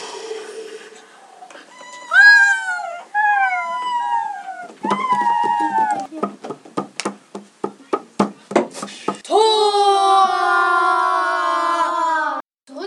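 A dog named Wolf barks loudly in a room at the Hotel Ladybug, with whining, yelping calls first, then a quick run of sharp barks, and finally a long drawn-out howl. No one speaks.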